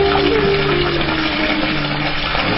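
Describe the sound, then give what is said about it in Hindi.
The sacred Saraswati River flows past a temple site in a steady, continuous rush, fairly loud, with no breaks and no voices over it. “पवित्र सरस्वती नदी भी यहाँ से गुजरती है।”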